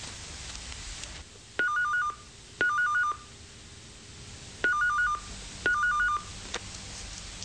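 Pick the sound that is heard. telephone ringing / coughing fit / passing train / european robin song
telephone ringing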